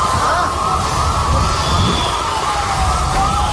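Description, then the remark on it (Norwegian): Fire brigade sirens wail steadily at the plane crash site in Ahmedabad, India, where Flight 171 to London crashed just after takeoff. Their pitch rises and falls in slow sweeps over a loud, dense rumble of crowd noise and shouts that fills the whole stretch. “Lyd her av brandvesen som jobber på ulykkesstedet I byen Ahmedabad etter flystyrten nå I formiddag.”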